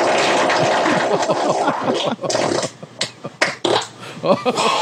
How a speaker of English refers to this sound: None of you motherfuckers can brick ass like this. I'm farting on you haters.